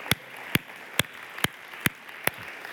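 Six sharp, crisp claps land in a steady rhythm of roughly two per second, like hands clapping together in unison, over a faint hiss with no one talking.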